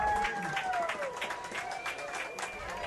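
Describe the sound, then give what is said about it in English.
The Galesburg crowd at a football game cheers and claps in a steady, noisy roar after a holding penalty wipes out a touchdown at the goal line, with scattered bursts of applause and a few thin whistling tones gliding over the din. “And the Galesburg crowd below us outside the press box here, happy to see that, which negates what would have been the first score of the game for either team.”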